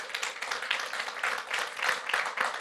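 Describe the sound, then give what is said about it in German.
Dense applause from an audience clapping to vote that they would rather live under a democracy, many hands clapping in a steady, crackling wash that stays fairly even and moderately loud throughout, with no voices on top. “Wenn du lieber unter einer Demokratie leben würdest, darfst du jetzt klatschen.”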